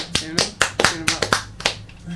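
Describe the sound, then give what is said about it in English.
Sparse, slightly uneven hand claps, about eight sharp claps in two seconds, as if only a couple of people are joining in. A faint voice hums underneath. “It's like you're trying to start a slow clap with one other person in the room.”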